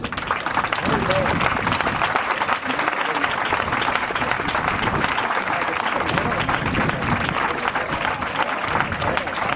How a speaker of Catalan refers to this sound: Doncs bé, un fort aplaudiment.